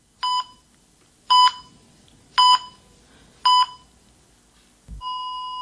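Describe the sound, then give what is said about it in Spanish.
A medical feeding pump alarm, from the device regulating a patient's feeding system, beeps four times in a steady, evenly spaced pattern, each tone bright and electronic, followed by a longer sustained tone; it has been sounding unanswered for half an hour; no one speaks. “Desde hace media hora, la alarma del aparato que regula mi sistema de alimentación ha empezado a sonar en el vacío.”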